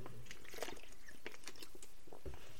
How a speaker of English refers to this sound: Sorry, another drink of water.